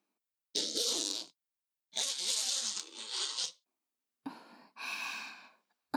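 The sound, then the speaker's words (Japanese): A zipper on a rubber suit is pulled closed in three slow, raspy strokes with short pauses between them, fairly loud, with no voices. “それじゃあスーツのチャックを閉めるね。”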